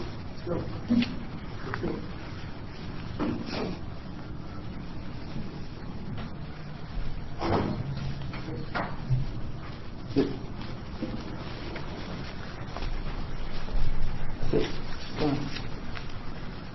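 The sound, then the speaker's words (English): A dog makes intermittent noises, short sharp yelps and whimpers scattered across the stretch, over a steady background murmur during a committee hearing. “The dog was sound asleep a minute ago.”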